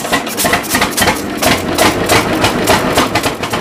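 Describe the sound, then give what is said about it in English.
An old tractor, bought new in 1937 and called Tractor Grandpa, on a farm in the Kansas Flint Hills, chugs steadily, its loud, rhythmic knocking pulses repeating several times a second over a low rumble, with no voices. “We call this Tractor Grandpa because back in 1937, my dad and my grandfather bought this tractor. It was new.”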